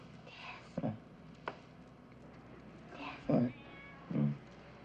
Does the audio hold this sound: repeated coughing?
no